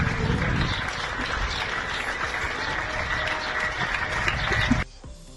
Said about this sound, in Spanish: El final del rescate terminaba con el hombre ya en la ambulancia y todo finalizaba con los aplausos de los vecinos.